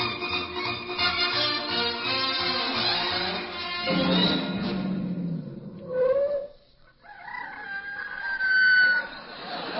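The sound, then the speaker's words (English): A rooster crows loudly in long, drawn-out, strained calls, breaking off briefly in the middle before a second crow rises and trails away. No voices are heard. “How about that crowing horse?”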